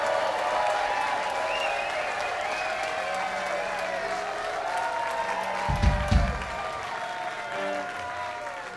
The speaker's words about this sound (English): Can I get a quick round of applause for the man who brought us all together and continues to keep us together and hold the law?